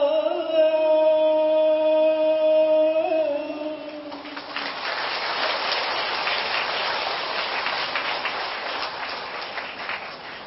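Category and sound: nature, rain falling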